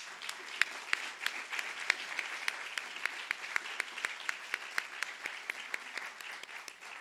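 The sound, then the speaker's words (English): An audience applauds steadily, a dense wash of many hands clapping with sharp individual claps standing out, sustained at an even level for several seconds with no voices, applauding the members of a jury as they rise. “Will the jury please rise for a well-deserved round of applause?”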